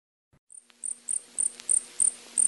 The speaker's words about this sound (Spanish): Pero en aquel momento, lo grave, lo importante, lo inadmisible era que un grillo se había apoderado de su vivienda.